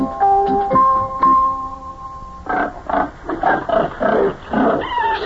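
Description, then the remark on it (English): Pigs, including baby pigs and a big fat one lying in the mud, in a pen on a farm in Ohio, starting with a few high, drawn-out squeals, then a steady run of about eight loud, coarse grunts in quick rhythm. No one speaks. “Look at all the baby pigs in there.”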